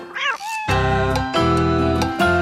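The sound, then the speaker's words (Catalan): A cat meows once, then a bright, loud radio jingle for the Gat i Gos section of 91.5 FM starts, with punchy bass hits and sustained tones over about two seconds. No one speaks. “Aquesta sintonia torna a la sintonia del 91.5 de l'FM.”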